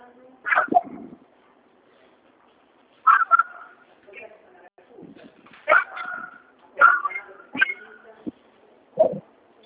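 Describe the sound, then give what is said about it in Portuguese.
A dog barks in short, sharp bursts spread across several seconds, mixed with higher whining yips, moderately loud, with no speech over it. “Mande o cachorro para ver.”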